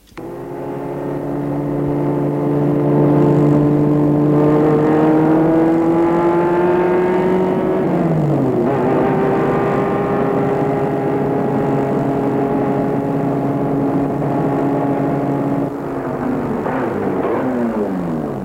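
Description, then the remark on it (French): A car engine hums steadily, its pitch climbing, dipping at a gear change, then settling before the motor eases down near the end as a woman stops the car in front of a chalet hotel in a forest on a warm, sunny day. No one speaks. “Elle arrête la voiture devant un hôtel chalet en pleine forêt.”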